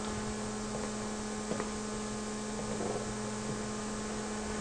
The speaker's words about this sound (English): Yes, so this is a sine wave, low frequency applied.